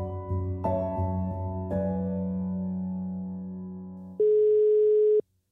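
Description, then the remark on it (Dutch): A single steady ringback tone on an outgoing phone call to a vital Zeeland man in his seventies, one mid-pitched beep lasting about a second, sounding loud after a fading bed of sustained musical chords. “Van alle keren dat we hem bellen, zit hij maar 1 keer niet op de racefiets.”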